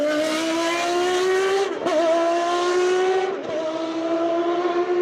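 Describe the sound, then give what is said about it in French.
A Peugeot 905 race car engine screams at high revs, pitch climbing steadily through two quick gear shifts with brief dips, loud throughout with no talking. “Ils vont donc développer une voiture que voici, la Peugeot 905.”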